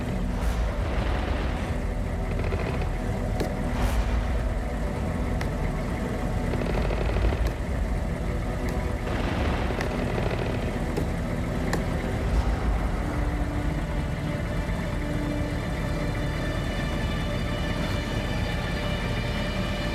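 A car engine runs steadily at idle in front of a building, a constant low rumble with a few faint clicks and rattles, continuous throughout, with no one speaking.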